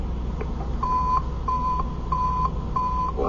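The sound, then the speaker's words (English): A receiver, switched on for a test, picks up a loud tracking signal: a steady, mid-pitched electronic beep repeating about four times in an even rhythm, each tone lasting under half a second, with no voices. “Wow, that thing's loud. It's because we're so close.”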